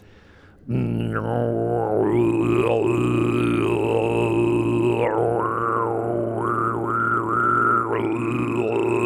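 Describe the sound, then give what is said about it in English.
Deep, growling Tibetan monk-style harmonic chanting: one low droning voice held for about eight seconds, with bright whistling overtones gliding and shifting above it, loud and steady with no talking. “Now that particular one is the one that the monks use.”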